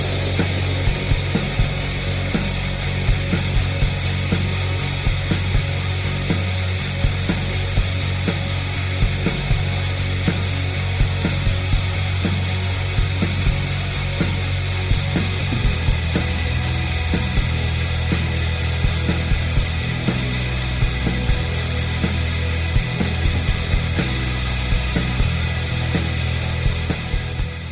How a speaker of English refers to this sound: I love their post-rock shoegaze vibe. This song is a long one, clocking in at just over 7 minutes, so put on your headphones if you have them and get in the zone.